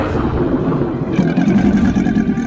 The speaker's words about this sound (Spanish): Surgió del abismo un ser infernal, un dragón morado que salió del mar. Rugió como un trueno.